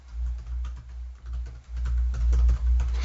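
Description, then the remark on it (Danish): Steady typing on a computer keyboard as a comment is written, fairly loud, with rapid irregular key clicks over a low hum and no voices. “Men jeg kan også bare skrive her.”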